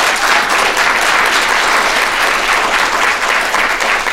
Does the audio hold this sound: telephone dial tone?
no